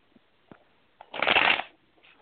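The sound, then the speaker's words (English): A Fountain Tarot deck being shuffled: a few light taps and clicks, then a dense, loud riffling burst lasting about half a second before it stops, with no voices. “I know these shuffle really hard.”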